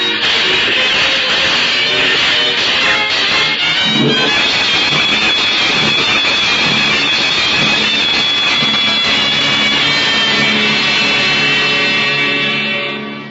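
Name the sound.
moving train on rails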